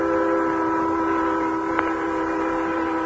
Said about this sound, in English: When the first train thundered westward on tracks that continued unbroken across the entire West, the Lone Ranger and Tonto watched from a hill.